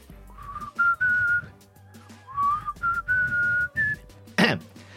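A person whistles a tuneful rock melody in long, held notes that rise and fall, fairly close and clear over a low background hum, with a short noisy burst near the end.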